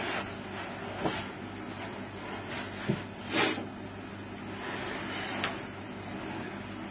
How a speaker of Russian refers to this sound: Там целый оркестр, можно сказать. Целый оркестр, вот это. Да? Сначала он свистом казался. Джазом. Так, а теперь выключим ум. В смысле кондиционер. Пульт.